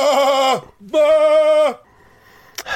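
Two loud sheep bleats in quick succession, each a wavering, drawn-out cry about half a second long, followed by a quiet pause and a brief soft rustle at the end.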